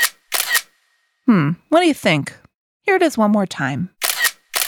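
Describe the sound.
A camera shutter clicks in a couple of quick, crisp bursts, then again after a person speaks briefly in between. The mechanical clicks are loud and sharp.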